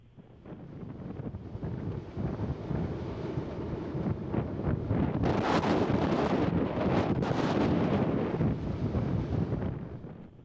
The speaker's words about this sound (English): And I think we should start by just playing some sound captured from the most recent episode of Kilauea's ongoing eruption.